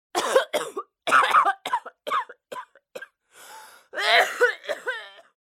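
A loud fit of harsh coughing: a rapid string of hacking coughs, a wheezy drawn-in breath, then a final burst of rough, throaty coughs.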